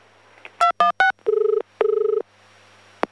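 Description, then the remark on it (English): A telephone rings as a call is being put through to another department: three quick electronic beeps, then two trilling ring bursts, clear, ending with a faint click. No one speaks. “Hang on, mate, and I'll put you through. I'm not real sure how to use this phone.”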